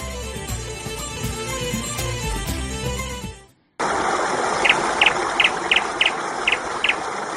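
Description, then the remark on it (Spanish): Music plays, then breaks off into a short silence. A small bird follows with about eight quick, high chirps in a steady rhythm over a constant background hiss, in an advert for Zamora tap water by Acuona. “El pajarico te está diciendo que bebas agua del grifo porque es sana, segura, sostenible, de la máxima calidad y porque supera todos los controles que marcan las autoridades.”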